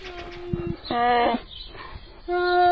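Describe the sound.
A human voice imitates a young bear cub's plaintive whimpering growl coming from the bushes: three drawn-out, moaning cries with short pauses between, fairly loud, the last one swelling stronger.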